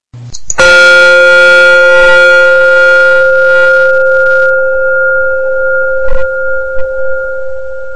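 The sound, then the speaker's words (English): A single meditation bell, rung during a guided meditation at the Insight Meditation Center in Redwood City, California, rings out with a bright metallic strike, then its steady harmonic tones hum and slowly fade over several seconds, with a couple of faint soft knocks near the end. “I will be using occasional single bells during the following meditation.”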